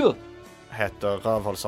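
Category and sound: human body sound, sneeze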